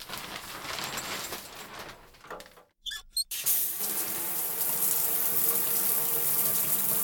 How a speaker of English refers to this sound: The hot shower feels good, but more than ever before, I noticed the difference between the hot water forced through the faucet hitting my skin compared to the rain.